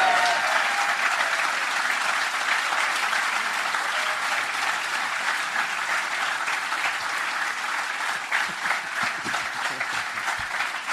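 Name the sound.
audience cheering and applause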